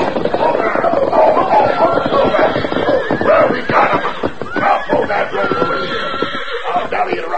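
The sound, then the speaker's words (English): A herd of unbroken horses thunders past at a gallop as four riders drive them in a close pack toward a corral, hooves pounding in a dense continuous rumble while the riders shout and whoop over them, loud throughout. “rode hard, shouting at the top of their voices, cutting back and forth to keep the horses in a close pack.”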